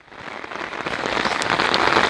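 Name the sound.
rain falling on surfaces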